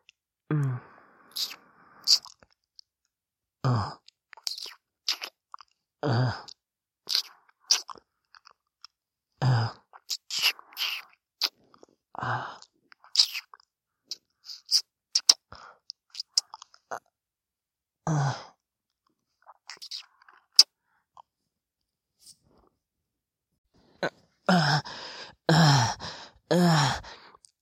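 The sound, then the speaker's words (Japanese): Wet mouth noises, squelching and clicking in short irregular bursts, mixed with soft breathy sighs and pauses of near silence between them. “くちゅくちゅって、いやらしい音出てるよ。”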